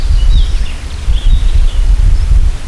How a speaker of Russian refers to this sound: Здесь встречают пение птиц, тишина, шум ветра в старом яблоневом саду